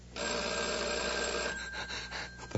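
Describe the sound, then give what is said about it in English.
A telephone rings loudly, a continuous jangling bell that holds for over a second, then breaks into rapid stuttering bursts before cutting off. “The phone. The phone. It's ringing again.”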